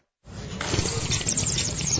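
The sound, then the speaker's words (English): A loud, wet slurping sound starts abruptly and continues steadily for about two seconds, a noisy rush of sucked-in liquid with no voices. “Why such a loud slurp, my friend?”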